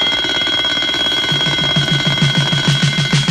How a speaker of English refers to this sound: When he hears the fire bell chime, Fireman Sam is there on time.